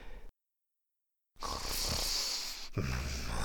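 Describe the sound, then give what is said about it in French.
After a short silence, a voice imitates snoring: two rough, raspy breaths in a row, fairly loud, with no talking. “Et ronflait.”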